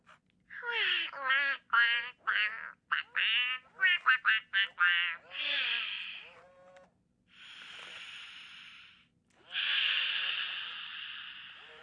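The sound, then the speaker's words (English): An interactive electronic toy duck reacts to a card tapped against it with a rapid burst of synthetic quacks, then two long airy whooshing tones like slow breaths in and out for a deep-breathing exercise, with no talking. “I'm sorry the listeners can't see everything that's going on here, but you can hear the suggestion of all the various things this wonderful duck is doing.”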